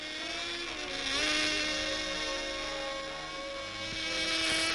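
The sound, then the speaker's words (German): The engine of a small remote-controlled aerobatic model airplane whines continuously at a high pitch, its tone rising and falling as the aircraft swoops and turns through aerobatic figures, loud and steady throughout with no voices. “Aber auch Kunstflugmaschinen gibt es unter diesen Flugzeugzwergen.”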